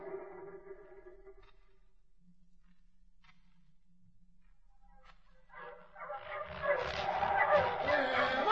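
Sled dogs barking and yipping: a few whining, drawn-out calls at first, then a loud, overlapping chorus of excited yelps that swells and continues to the end.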